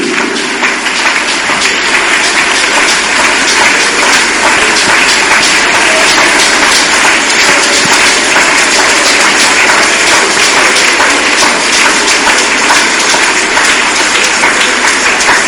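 A large crowd claps steadily and loudly for about fifteen seconds, a dense, continuous wash of applause with no voices standing out.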